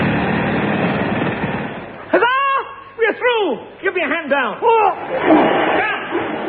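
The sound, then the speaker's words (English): A loud, rapid rattling pneumatic drill digging a hole through the floor of a crate on a ship, broken in the middle by warbling, swooping vocal-like noises before the harsh drilling clatter returns. “Inflate this pneumatic drill.”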